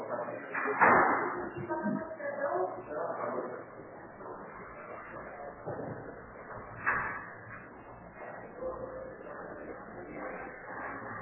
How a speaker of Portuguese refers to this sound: Tá chaveado e não abriram, tá? Eu bati, mas não tem como abrir. É, não tá chaveado, é só forçar a porta que ela abre. É que ela não tá trancada por mim.